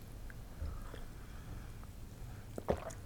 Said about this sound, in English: Sip.